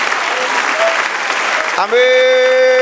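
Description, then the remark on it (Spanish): An audience claps steadily in a dense, loud burst of applause for about two seconds, then a sustained keyboard or organ chord swells in and holds as the clapping fades. “Denle otro aplauso, celébrelo.”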